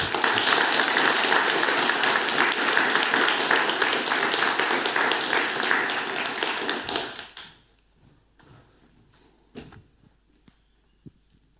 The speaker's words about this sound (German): Erstmal vielen Dank an Sally für den wunderbaren Talk und einen großen Applaus.